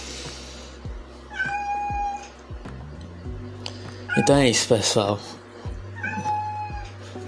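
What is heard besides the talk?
cat meowing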